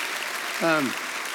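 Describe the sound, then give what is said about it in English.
A church audience claps steadily, giving the Lord a round of applause for their leadership, a dense wash of applause throughout, with one voice briefly calling out over it midway. “Could you give the Lord a round of applause for what you've been blessed with leadership here?”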